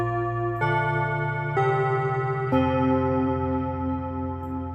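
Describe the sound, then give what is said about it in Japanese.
A bell chime rings out four rich, resonant tones in a slow melodic sequence, each strike overlapping the last as they sustain and fade, with no voices present. “鐘が鳴ったところで今日のトピックの方に移っていきたいと思います。”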